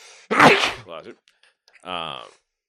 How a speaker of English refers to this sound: Yep. I got sneeze.